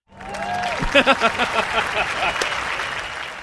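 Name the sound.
clapping applause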